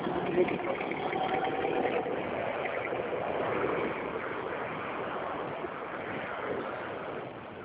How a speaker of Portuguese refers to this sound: Minha moto tá lá. Ó. Lá.